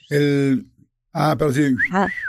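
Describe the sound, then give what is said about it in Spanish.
A voice imitates a catcall whistle: a short voiced tone, a pause, then a sliding sequence ending in a rising-and-falling wolf-whistle shape, fairly loud. “en otra ocasión sí me pasó algo en casa de mi abuelita, en donde yo me estaba cambiando de ropa y me estaban chiflando.”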